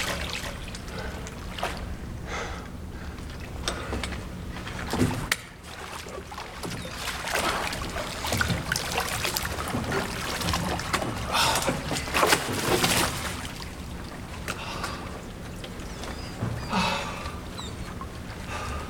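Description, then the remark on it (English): A small rowboat moves through water as people head out fishing, with steady sloshing and occasional splashes and knocks, while faint birds call in the background. “You can't just climb into my boat.”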